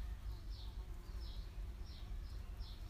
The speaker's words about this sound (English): That buzzy insect better not come near me, because I think it might be a wasp.